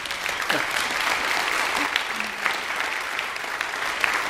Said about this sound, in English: But we're pleased that you're here. If you'd stand, if you're from one of these agencies, we'll welcome you with applause if you're here.